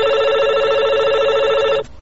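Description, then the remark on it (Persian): A telephone rings steadily with a bright, buzzing electronic tone on Radio Azadi's call-in programme, loud and sustained for nearly two seconds before cutting off abruptly. No voices are heard. “بشنوین تماس های تلفنی و آهنگ های فرمایشی تانه.”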